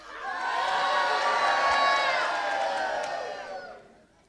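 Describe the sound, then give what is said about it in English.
The Israelite army, moving into battle formation at its camp to face the Philistines, roars a war cry in unison, a loud, sustained shout that swells quickly, holds for a few seconds, then fades away. “And he arrived at the camp just as the army were moving into battle formation, shouting the war cry.”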